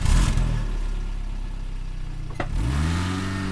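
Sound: car driving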